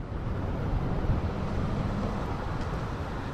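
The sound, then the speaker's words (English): Steady, loud wind buffeting a microphone while riding a bicycle on a windy morning commute from Oakland toward San Francisco, a continuous low rumbling roar with no pauses and no voices. “So we are recording, and I'm heading out for my bicycle ride on a fairly windy day, fairly windy morning.”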